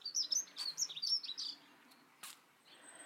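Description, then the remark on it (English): Wild birds sing in quick, high, bright chirps and trills for a second or so, then trail off to fainter calls and a short noisy burst, with no voices. “So, I wish I was good with birds, because I don't know what birds these are.”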